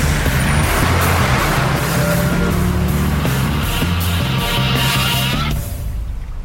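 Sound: sports car driving past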